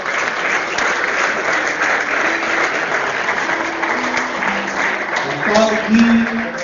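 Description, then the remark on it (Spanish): A crowd applauds steadily, a dense wash of clapping that stays loud throughout, with a few faint tonal voice-like sounds rising near the end. “Un aplauso para Rulo Rodríguez.”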